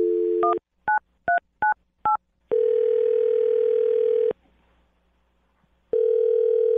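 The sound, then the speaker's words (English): A phone line sounds a steady dial tone, then five quick beeping keypad tones are dialed, followed by a long ringback tone, a pause of silence, and another ring starting. “I'm going to dial him right now and see what he has to say, okay?”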